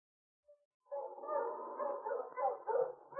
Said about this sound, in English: The sled dogs increased their pace and yelped with eagerness